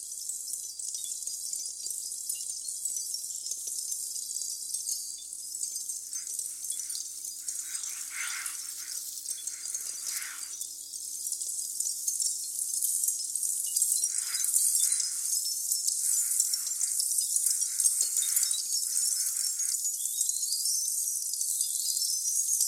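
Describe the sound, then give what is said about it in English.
A dense, continuous wash of high-pitched crackling and tinkling, like countless tiny sparks of smoldering charcoal, with occasional fuller bursts of crackle breaking through. No voices. “Like in Xenakis' Concrete PH2, made from the sounds of the discharge of smoldering charcoal, tinkling all over the Brussels pavilion, like needles darting from everywhere, as Xenakis says.”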